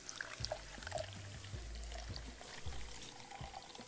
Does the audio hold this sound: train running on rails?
no